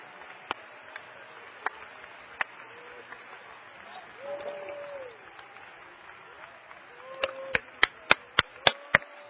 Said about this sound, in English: Oh, clap your hands with me. Come on, let's clap our hands to him.